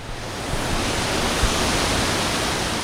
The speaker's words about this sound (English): This is a dry, sunny Midwestern day, but when it rains here, even a fraction of an inch, water directly from the city sewers pours into the river here at Fairbanks Park and at eight other locations. This is called Combined Sewer Overflow, or CSO.